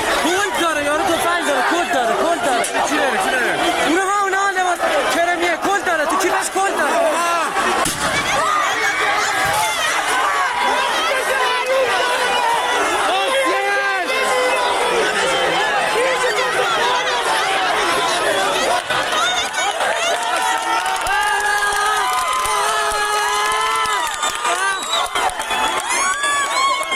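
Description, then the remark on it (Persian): A large crowd of protesting students at universities in Iran, shouting and chanting slogans against the Islamic Republic, a dense, continuous roar of many voices with rising cheers and overlapping calls throughout, loud and steady with no quiet gaps. “شعارهای متنوعی در دانشگاه‌های ایران به گوش می‌رسید با یک هدف واحد: مخالفت با جمهوری اسلامی.”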